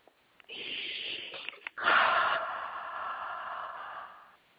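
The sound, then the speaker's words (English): Two deep, airy breaths by a person: a shorter one, a brief pause, then a longer, louder, rushing breath that slowly fades. No one speaks. “We have somebody breathing very deeply.”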